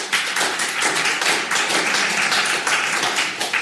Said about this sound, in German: Also, das nächste Geräusch. Ist es drin gewesen? Dann jetzt klatschen.